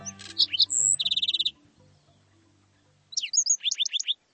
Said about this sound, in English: Singing from atop a cactus, a handsome bird greets the new day. It's a black-throated sparrow, an iconic desert denizen of the southwestern U.S. and northern Mexico.